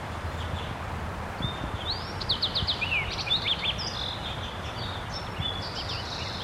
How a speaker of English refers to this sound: Okay, the wild bird doing some soft song.